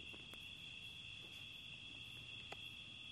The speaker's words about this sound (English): In the same way that you're hearing the sound of the crickets right now, but you don't have to get involved in the sound of the crickets. They're there. You're not trying to blot them out. But they're not the object of your attention.